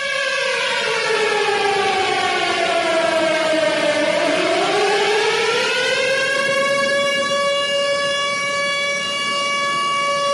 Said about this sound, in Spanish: El sábado, a las 7 de la mañana, Israel se despertó con el sonido de las alarmas y la noticia de un ataque por parte de Hamás, el grupo islamista que controla la Franja de Gaza.